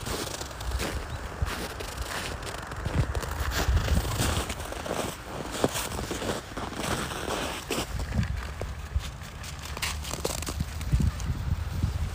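Crunching footsteps on snow repeat at a steady walking pace over the constant rushing wash of a river flowing nearby; no one speaks.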